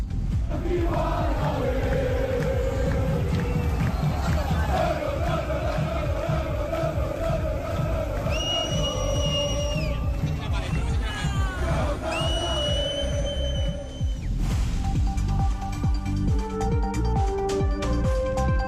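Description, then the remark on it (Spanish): A dense crowd of football fans in blue and white roars and chants continuously at Portal de Castilla ahead of a match at Mendizorroza, with sustained whistles and horn-like tones rising above the din, loud throughout with no pauses. “Por cierto, decía nuestro compañero Adrián que en estos momentos pues lucía el azul y el blanco en ese portal de Castilla, y este era el sonido.”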